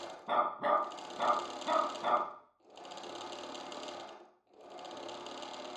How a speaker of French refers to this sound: la machine à coudre pétarade et l'animal aboie à intervalles réguliers.